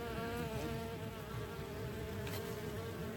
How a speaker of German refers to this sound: Fliegt eine Biene ins Zimmer, so deutet dies auf baldigen Besuch.